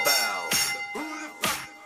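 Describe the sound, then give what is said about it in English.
A bell rings repeatedly, about four bright metallic strikes roughly half a second apart, each leaving a shimmering ring that overlaps the next, moderately loud. “The bell.”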